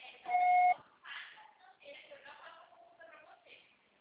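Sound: voicemail recording beep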